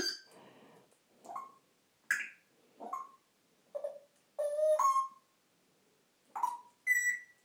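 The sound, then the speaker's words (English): An African grey parrot named Kendra mimics landline phone tones, producing a string of short, electronic-sounding beeps and whistled chirps in an irregular sequence, fairly loud, with no talking. “She's quite a techie bird, this one. She gets all the technical noises.”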